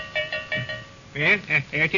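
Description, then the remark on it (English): A cowbell, rung by a string to the porch, clangs in a quick, uneven series of about seven strokes, the first few lighter and the later ones louder and fuller, ringing briefly between hits. “Cowbell just rung, that's all.”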